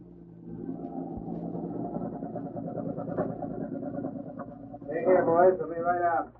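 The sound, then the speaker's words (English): A heavy truck engine rumbles steadily with a low, droning drone as the truck arrives, holding a fairly even level throughout; near the end a voice breaks in over the motor noise. “There's a truck getting here.”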